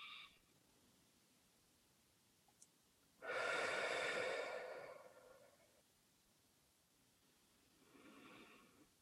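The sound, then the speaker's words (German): Slow breathing during a breathing exercise: a long, loud, airy breath lasting about two seconds, then a quiet pause before a softer breath begins. No one speaks. “Also ich mache eine Faust und beim Ausatmen auf.”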